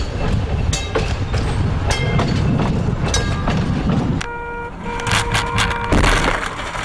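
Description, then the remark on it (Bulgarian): A city tram rumbles and clatters along its rails, then its wheels give off high, ringing metallic squeals as it keeps rolling past. “На 7 юни 1926 година един най-обикновен градски трамвай в Барселона уби Антонио Гауди, един от най-необикновените архитекти и визионери на Европа и света.”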